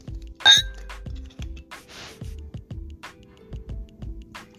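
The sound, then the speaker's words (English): A shot is poured from a bottle into a small glass: about a dozen steady, low glugs in a regular rhythm, with a bright glassy clink near the start and faint hissy splashes. “Let me pour me a shot to my shot glass.”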